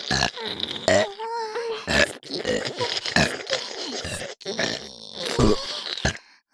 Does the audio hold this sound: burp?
yes